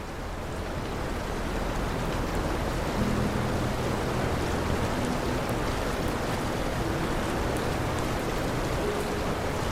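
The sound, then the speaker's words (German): A stormy sea's surf roars from outside in a dense, unbroken wash of noise, steady in loudness throughout, mixed with the soft, steady rush of water in a basin, with faint low tones drifting underneath and no voices. “Das Geräusch des stürmischen Meeres von draußen mischt sich mit dem leisen und stetigen Rauschen des Wassers im Becken.”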